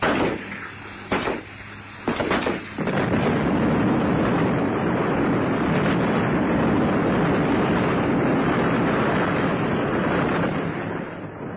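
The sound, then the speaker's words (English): A helicopter explodes in a bright ball of flame after shots are pumped into its fuel tank: a few sharp cracking bursts give way to a massive explosion, followed by a loud, sustained roaring rumble like a fireball that keeps burning and crackling without fading, as wreckage crashes into the jungle. “The helicopter exploded in a bright ball of flame, and what was left crashed into the jungle for hundreds of yards all around.”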